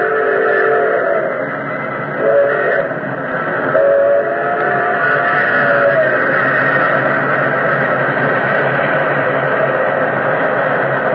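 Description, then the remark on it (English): An express train engine roars out of a tunnel mouth and past in a loud, unbroken rumble lasting the whole time, with a steady droning, horn-like tone layered over the thunderous noise and no voices. “Like an incredible, fiery-eyed monster, the express engine roared out of the tunnel mouth.”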